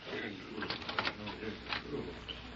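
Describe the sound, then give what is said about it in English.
A printing press in a shop runs, printing fake paper money for Ormond King, with a steady mechanical clatter, its rhythmic clanks and thumps rising in brief bursts over a constant whirring hum at moderate volume. “If I print any more fake paper money for Ormond King, I'll never be able to face Prairie City again.”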